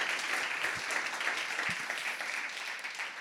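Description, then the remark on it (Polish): An audience applauds the guests at the end of a conversation, a steady, dense wash of many hands clapping at once. It holds a fairly even loudness for the whole few seconds, with no voices rising above it. “Wielkie brawa dla moich gości.”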